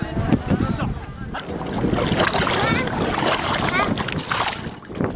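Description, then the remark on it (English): Waves wash steadily against an Indian Ocean shoreline at Maraka town, with boats nearby, water splashing and sloshing under gusts of wind, with faint indistinct voices mixed into the busy, continuous waterside noise. “In Maraka town, on the shores of Indian Ocean, the situation is not any better.”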